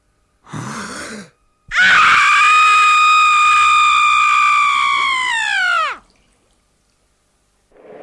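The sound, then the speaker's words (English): A man imitates an intense, agonized female childbirth scream, the 'fire, water, female birth scream': a short strained cry, then a long, loud, sustained shriek of about four seconds that breaks and falls off at the end. “It's the fire, water, female birth scream. And this is about as close as I've been able to get.”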